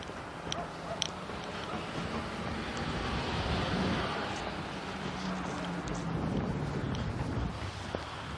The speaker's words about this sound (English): FedEx on delivery this morning in his Mercedes lorry.